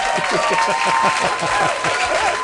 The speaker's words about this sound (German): Lärm ist super, hier kommt ein Applaus.